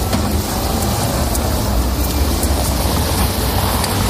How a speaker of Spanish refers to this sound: Caminamos por una calle repleta de autobuses, coches, patinetes, bicis, gente con prisa que intenta llegar al trabajo